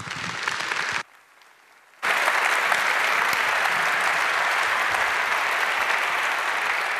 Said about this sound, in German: Bitte einen schönen Applaus.